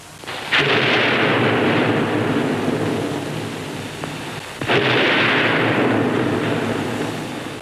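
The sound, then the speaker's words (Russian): Two heavy cannon blasts about four seconds apart from a cannon rolled out by the Whites in a Chapaev film scene, each a loud boom followed by a long rumbling roar that slowly fades. No voices are heard. “Но белые выкатывают пушку.”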